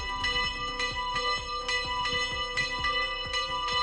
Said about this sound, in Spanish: A las 12 y 15 minutos exactamente, las campanas anunciaban el inicio de una ceremonia cargada de fe y devoción.